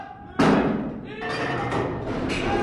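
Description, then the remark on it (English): A 300-pound piece of drilling equipment, set down by three men on a training drilling rig at the Rocky Mountain Oil and Gas Training Center in Casper, Wyoming, drops with one loud, deep thud, followed by a steady rumble of metallic clatter and a few more dull knocks as work noise continues. “Three men lift a 300-pound piece of equipment on cue, then they put it down, then they lift it again.”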